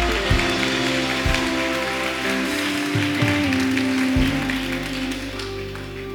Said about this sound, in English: Come on, clap like you have some energy right now. Clap like you believe God's a miracle working God.